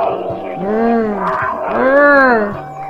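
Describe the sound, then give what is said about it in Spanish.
Two loud, drawn-out roars of a puma follow one after another, each swelling up in pitch and then sinking back down, with almost no pause between them. “Entonces volvió a escuchar el terrible rugido.”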